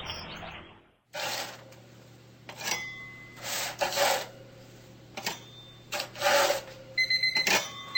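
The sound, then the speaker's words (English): A metal spatula scrapes repeatedly across a metal baking pan in a kitchen, lifting freshly baked ginger snaps off in short, rasping strokes with brief clinks, fairly loud against a steady low hum, with no talking. “the sound it makes when she moves freshly baked ginger snaps from their metal baking pan onto”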